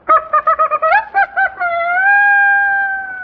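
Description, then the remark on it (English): A saxophone imitates a rooster crowing: a quick run of clipped, stuttering notes, then one long sustained wailing tone that bends upward and holds. It is loud and alone, with no talking. “Flap tongue. the rooster.”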